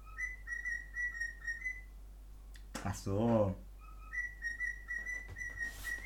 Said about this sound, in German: Digga, geh mal weg mit diesem Vogel. Digga, Vogel ist anders wild. Das ist aber ein Vogel.